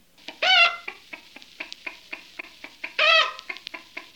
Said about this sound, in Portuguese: Oh, não! As galinhas invadiram a horta e estão comendo os legumes.